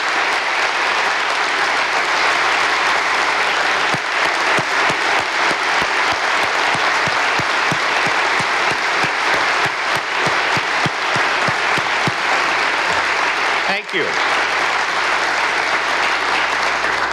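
audience round of applause

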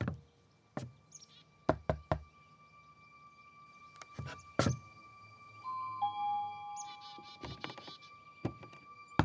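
knocking on a door

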